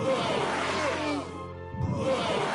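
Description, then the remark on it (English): A loud, buzzy video game sound for a voodoo doctor enemy in level 1, a dense, voice-like growl that briefly thins out midway before swelling again, lasting a couple of seconds. “That's the Voodoo Doctor.”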